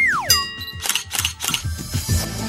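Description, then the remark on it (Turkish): A camera shutter clicks three times in a quick, even series, preceded by a falling electronic tone and a bright beep, all fairly loud with no voices. “Bu bir fotoğraf makinesi.”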